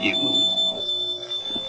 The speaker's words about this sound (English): That is the tinkle of the shop bell.